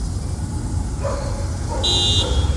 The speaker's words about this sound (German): Und hier auf dem Parkplatz steht ein Auto. Das macht Lärm, weil es seinen Fahrer vermisst.